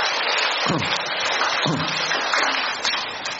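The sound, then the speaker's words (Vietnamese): A steady, dense burst of clapping from a crowd fills the whole stretch at an even loudness, another round of applause with no one speaking over it. “Rồi một tràng pháo tay nữa thưa anh chị em.”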